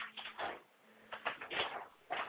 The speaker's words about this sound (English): We hear them closing the door.